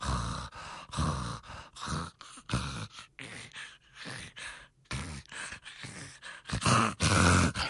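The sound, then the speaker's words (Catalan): A person imitates a child's snoring to show irregular breathing in sleep, a series of irregular, breathy snorts and gasps with uneven pauses between them, fairly loud, with no talking. “Una respiració, els pares expliquen, no, és que no, ronca, cansat, però és com irregular, no?”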